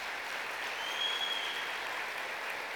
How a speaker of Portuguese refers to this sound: Agora, aplauda o Senhor Jesus.